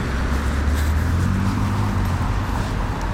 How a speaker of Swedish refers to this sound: En jäkla massa bilar.